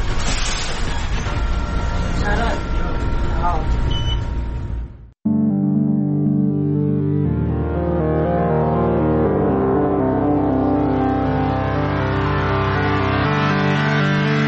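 The engine of a bus travelling from Ilijaš to Sarajevo drones steadily with broad road noise and rattling for about five seconds, then cuts off abruptly and sustained tonal music takes over.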